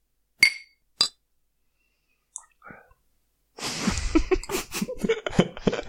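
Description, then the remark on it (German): Two bright clinks of beer glasses ring out in a toast, a brief pause between them, followed by a few small sounds and then loud, lively voices and bustle. “Ich sag einfach Prost”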